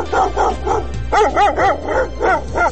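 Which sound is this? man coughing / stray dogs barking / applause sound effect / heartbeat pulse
stray dogs barking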